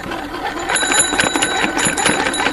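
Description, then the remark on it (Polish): A field telephone that served with the Polish II Corps in Italy rings continuously in a rapid, metallic bell trill, steady and fairly loud for the whole stretch, with no voices over it. “Telefon polowy? Tak jest.”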